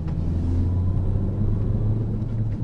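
A manual (stick shift) car engine hums steadily while driving, a continuous low rumble heard from inside the vehicle, with no talking over it.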